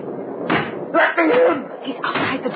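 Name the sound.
banging on a door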